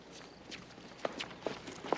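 Quick footsteps of someone rushing after a person who stormed out hurry along in a steady rhythm, about five or six sharp, fairly soft steps over a couple of seconds, with no one talking.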